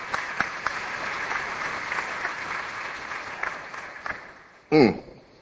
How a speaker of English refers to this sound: So thank you, and give yourselves a round of applause, because you make the difference.